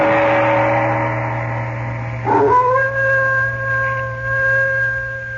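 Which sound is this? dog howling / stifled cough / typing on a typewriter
dog howling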